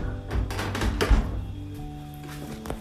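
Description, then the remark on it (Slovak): A door is pushed shut with a few dull thumps, the heaviest just after one second, while steady tonal music from the village public-address radio hums quietly in the background. “Počkajte, ja zavriem pre istotu dvere, nech to nemáme až také veľmi, veľmi hudobné.”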